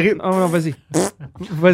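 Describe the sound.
A short, buzzy fart sounds once, loud, in a brief gap between bursts of casual talk from a couple of people.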